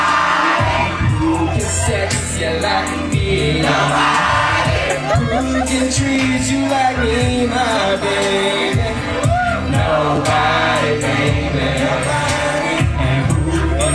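crowd cheering wildly

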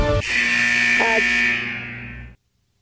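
game show buzzer

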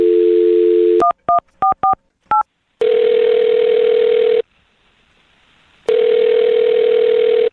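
telephone number being dialed

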